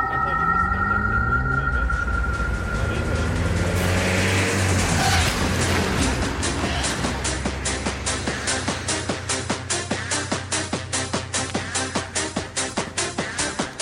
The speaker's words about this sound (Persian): ببخش یه ماشینی میاد